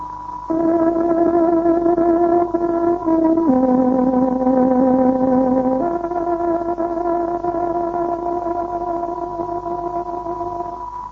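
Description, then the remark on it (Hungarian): A tárogató sounds the 13:00 time signal on Radio Free Europe's Voice of Free Hungary shortwave broadcast: a few long, sustained reedy notes, the middle one dipping lower before the melody returns to the first pitch and holds. No talking. “Kedves hallgatóink, pontos időjelzést adunk. Tárogatónk 13 órát jelez.”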